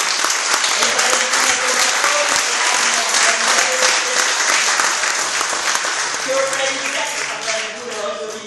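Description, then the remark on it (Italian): A crowd applauds steadily for about eight seconds, a dense, loud wash of clapping that holds an even level throughout, with a few voices calling out underneath. “Quindi credo che noi abbiamo già esempi di lotte che possono vincere sicuramente, e anzi a questo proposito io credo che un applauso ai compagni di Lati e Lati.”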